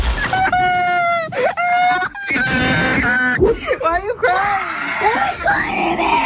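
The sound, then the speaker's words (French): A very young video game player screams and wails in distress after having a game character stolen, loud, with a string of strained, high-pitched tearful cries broken by short gasps. “On voit fleurir sur les réseaux sociaux des vidéos de très jeunes joueurs en larmes ou qui hurlent, qui pètent un câble parce qu'ils se sont fait dépouiller leur Brain Rot, leur petit personnage, écoutez.”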